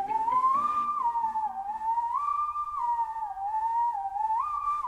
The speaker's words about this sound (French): avec toujours le sifflotement incomparable qu'on entend dans la chanson …